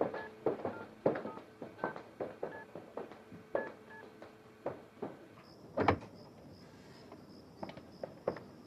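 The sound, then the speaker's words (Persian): A telephone being dialed to call a brother: a quick, uneven run of short touch-tone beeps with soft button clicks, ending in a thin, high, steady tone. No one speaks. “من اجازه دارم به برادرم یه تلفن بکنم؟”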